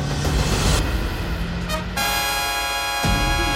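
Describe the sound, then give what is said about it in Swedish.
Vehicles in a car chase on the E14 just outside central Östersund roar past in a loud rush of engines, with a sustained horn blaring through most of the scene and a constant low road rumble underneath. “vi istället sänder direkt från den biljakt som pågår på E14 strax utanför centrala Östersund.”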